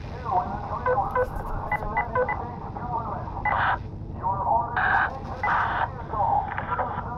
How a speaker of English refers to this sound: They're picking up interference from their radios.